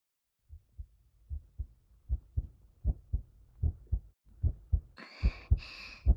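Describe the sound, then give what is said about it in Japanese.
A muffled heartbeat thumps through the speaker's chest in steady lub-dub pairs, fairly quick and growing louder, racing from nervousness, with a brief rustling sound near the end. “私これでも緊張してるんだよ。私の胸の音聞いてみて。”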